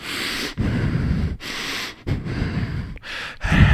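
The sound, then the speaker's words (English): A voice imitates a man breathing hard only through his nose with his mouth shut: several loud, forceful huffs in a steady rhythm, with short pauses between them and no talking. “But he sits up and he's just breathing hard, just out of his nose. His mouth is shut.”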